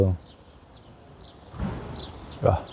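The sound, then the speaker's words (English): Faint, high bird chirps repeat every half second or so in a wood, while muffled voice sounds and a low rumble come in partway through. “I feel I'm in the wood. Birds are singing here.”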